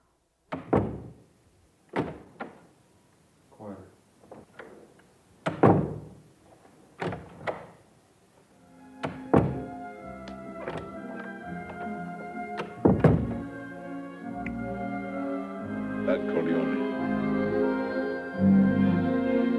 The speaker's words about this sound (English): For instance, 25 years ago, for the final scene of The Godfather, when Michael Corleone closes the door on his wife, Murch recorded all the doors in director Francis Ford Coppola's house, listening for the door slam that would signify betrayal.